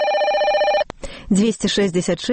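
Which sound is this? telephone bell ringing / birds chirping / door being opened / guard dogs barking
telephone bell ringing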